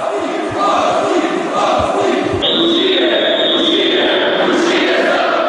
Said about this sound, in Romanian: Toți deputații de la USR și PNL au venit la prezidiu și au huiduit guvernul.